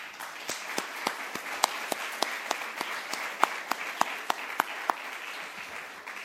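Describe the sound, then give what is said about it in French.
An audience applauds steadily for a pastor who has just turned 90, a dense wash of many hands clapping with sharper individual claps standing out at a fairly regular pace, sustained at moderate loudness for several seconds without speech. “Puis en même temps qu'on l'applaudit lui, on applaudit le Seigneur parce qu'il a vraiment fait quelque chose de merveilleux et nous en sommes témoins.”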